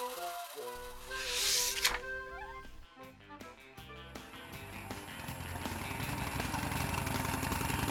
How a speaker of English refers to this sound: A man went past on a scooter.